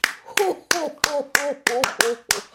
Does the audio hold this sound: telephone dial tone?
no